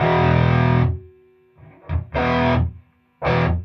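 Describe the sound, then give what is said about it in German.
Loud, heavily distorted electric guitar through a tube amplifier with its tubes driven into saturation at full power: three thick, buzzing chord bursts with sustained harmonics, separated by brief near-silent gaps and a short scratchy note. “die Amps nur, wenn die Röhren in die sogenannte Sättigung gefahren werden, also volle Leistung bringen.”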